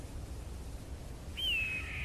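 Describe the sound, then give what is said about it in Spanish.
A single high, thin eagle cry rings out as an eagle flies over the desert, a shrill descending whistle lasting under half a second, heard over a steady low outdoor rumble with no other sounds. “Y al elevar la mirada hacia el cielo azul, observas que es un águila que sobrevuela por el desierto, extendiendo sus grandes y plumadas alas.”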